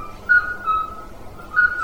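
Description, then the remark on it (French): A midwife toad (alyte), a small toad, calling: three short, pure, flute-like beeps at a steady mid-high pitch, spaced irregularly, with a faint continuous tone and no voices. “Donc ça c'est notre alite, c'est un petit crapaud. Lui, c'est le crapaud accoucheur, je crois qu'il s'appelle, j'ai pas mis, alite accoucheur ou crapaud accoucheur.”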